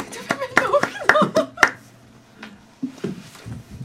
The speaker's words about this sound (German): Einen kleinen Applaus für den Einwurf.